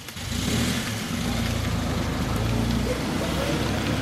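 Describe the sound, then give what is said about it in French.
A car carrying someone's sister drives past as she arrives, its engine a steady low-pitched drone with a faint revving edge that holds loud for the whole few seconds. “Ah oui, c'est ça la voiture qui vient de passer.”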